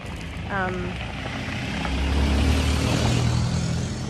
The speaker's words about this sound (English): Some cars going by. Let's let them pass before I dive into this.